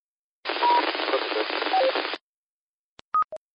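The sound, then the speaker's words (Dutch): A burst of band-limited amateur radio static with a faint station buried in the hiss, someone trying to call in, followed by a quick series of short electronic beeps after a brief silence. “Ik hoor iemand in de ruis die probeert zich in te melden.”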